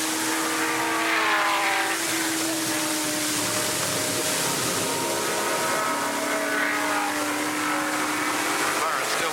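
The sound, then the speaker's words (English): Racing sports cars, Bob Johnson's 7-liter Cobra trailing Jim Hall's Chaparral, which has overtaken a slower car, roar down the Emerald Beach Pass of a circuit, their engines whining loudly and steadily, the pitch sliding downward as they sweep by, with another engine note rising in behind. “He trails Jim Hall's Chaparral, which has overtaken a slower car.”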